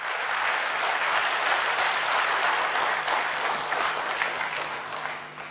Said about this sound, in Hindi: पिछले 2 वर्षों से आप ब्रह्मा कुमारीज के बंबई निहित सेवा स्थान पर ही रह करके बाहर के जगत में भी अपनी सेवाएं दे रहे हैं, इसलिए ताली जरूर बजाएं.